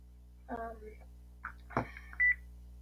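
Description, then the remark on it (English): A single short, sharp, loud electronic beep sounds near the end, after some brief, indistinct voice-like sounds over a low steady hum. “Ignore the beeping.”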